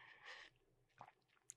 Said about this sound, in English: And if you catch the replay or the audio version, you're going to hear a lot of drinking of water and clearing of throat.